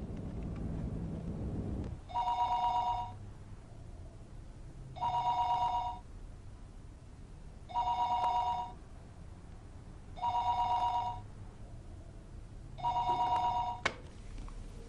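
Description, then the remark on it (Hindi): A phone line rings out while a call to a home number is being placed: five evenly spaced ringing tones, each about a second long, repeating steadily over a low background hum, with no one answering or talking. “घर का नंबर मिलाओ। मिला रही हूं।”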